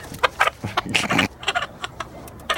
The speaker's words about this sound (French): Poulet, il se tire, le poulet, attrapez-le. Hey. Allez, merde, rattrapez-moi ce putain d'enfoiré de poulet, maniez-vous.